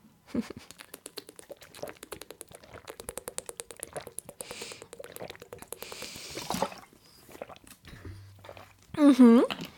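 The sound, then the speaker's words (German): Someone drinks water from a bottle with quick rhythmic gulps and liquid sloshing for several seconds, ending in a short, loud voiced sound. “So, Prost alle. Gut, trink.”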